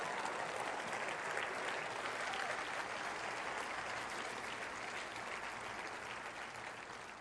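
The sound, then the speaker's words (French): Steady audience applause fills the whole stretch, a dense, even wash of many hands clapping at a constant loudness, tapering very slightly at the end, with no voices standing out. “Applaudissez la promesse que Dieu a pour chacun d'entre nous.”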